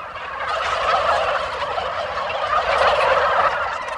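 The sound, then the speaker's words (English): A flock of white turkeys with bright red wattles on a turkey farm gobbles continuously, overlapping rattling calls forming a dense, steady chorus with no pauses and no voices. “Each turkey looks the same, like a small white ostrich with a bright red wattle and sky blue stain around its eyes.”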